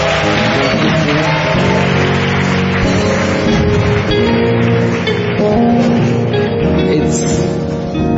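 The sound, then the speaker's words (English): A church audience at an evening graduation service claps loudly and continuously for several seconds, giving Jesus a clap, a dense indoor wash of applause with a steady musical or tonal hum running underneath. “Can we give Jesus a clap this evening?”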